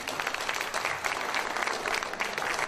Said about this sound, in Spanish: ¡Fuertes aplausos!